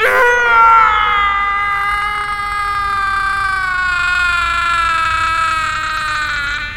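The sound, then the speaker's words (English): A long, loud, agonized scream from a man, held for several seconds as its pitch slowly sinks, raw, with no other voices around it. “last scream made the gods very happy.”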